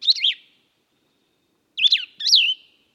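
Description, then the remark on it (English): Plumbeous vireo song: three short, slurred whistled phrases, one at the start and two close together later, clear with silence between. “The Plumbius vireo's name derives from the Latin word plumbum, meaning lead.”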